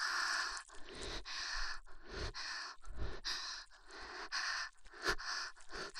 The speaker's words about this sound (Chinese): 在做这种事情的时候，天方的喘气声是最美妙的音乐。